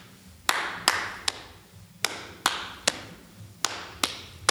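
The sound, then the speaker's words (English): Sharp hand claps and pats on the legs, played as a music rhythm exercise where white notes are patted on the leg and black notes are clapped, fall in a steady rhythm of three quick hits, then a short pause, repeating three times. Crisp and fairly loud, with no voices. “But I say to them, if you've got a white note on your leg, if you've got a black note, clap.”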